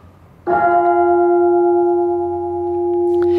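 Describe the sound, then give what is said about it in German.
The large peace bell of a church in Chorweiler, cast in 2014, is struck once, loud, its deep tone ringing on in a long, steady sustain with shimmering overtones and no voices. “Die Kirche hier beherbergt eine Besonderheit, die Chorweiler Friedensglocke.”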